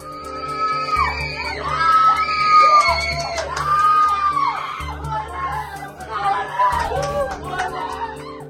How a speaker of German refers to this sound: Jubel in Israel. Die Freude und Erleichterung der Angehörigen und Freunde nach der Freilassung der israelischen Hamas-Geiseln aus dem Gazastreifen ist schier unermesslich.